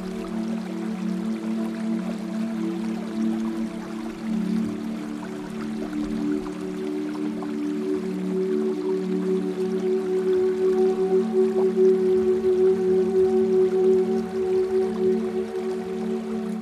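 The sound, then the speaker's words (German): A small river of clear water in a forest rushes and trickles steadily throughout, heard from afar, a continuous watery wash with no voices, layered over low, sustained humming tones. “Von weitem hörst du das Rauschen von Wasser.”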